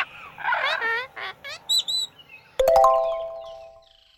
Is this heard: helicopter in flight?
no